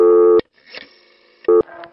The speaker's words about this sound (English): You'd always get a burst of dial tone after the first digit you dialed.